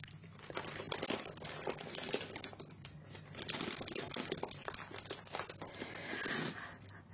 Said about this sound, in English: Has a nice amount of crunch and crinkle.